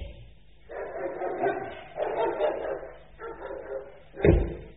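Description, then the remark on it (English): A dog barks in three rough, sustained bursts at moderate volume, and a sharp thud like a slamming door cuts in near the end. “We found the dog.”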